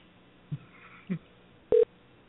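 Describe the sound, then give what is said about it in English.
Over a thin telephone line during an outgoing prank phone call, a single short, fairly loud ringing tone sounds after two soft low bumps, with faint line hiss throughout and no one speaking. “Oh, it's ringing.”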